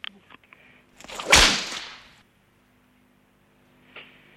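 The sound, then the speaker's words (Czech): A single sharp, loud whip crack rings out, with a brief swishing lead-in and a fading tail, followed by quiet and a faint later rustle. “Bohužel, prasknutí biče to bylo.”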